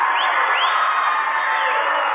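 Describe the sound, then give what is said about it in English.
A basketball crowd at a Centralia game cheers loudly and steadily just after Centralia retakes the lead 25-24, about two minutes before halftime: a dense roar of many voices with a few rising whoops and whistles cutting through, sustained for the whole two seconds without any single voice talking. “Listen to the crowd get into it.”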